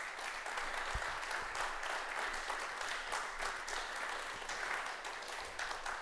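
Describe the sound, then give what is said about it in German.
Sustained audience applause at an evening event at the Basecamp, a dense steady patter of many hands clapping at an even loudness for several seconds, with no voices heard over it. “Das ist Ihr Applaus nochmal.”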